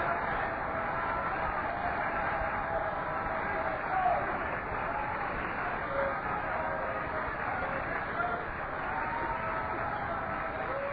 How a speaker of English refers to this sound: A big hand clap of praise.